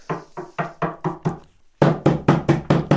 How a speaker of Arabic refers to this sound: سمع طرقا على الباب.